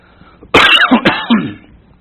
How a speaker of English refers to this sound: Sorry for all the coughing there.